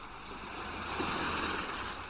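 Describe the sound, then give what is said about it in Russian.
Ocean surf rushes steadily, a broad continuous wash of breaking waves that swells slightly in the middle. Moderately loud, with no voices. “Прислушайтесь к звукам прибоя.”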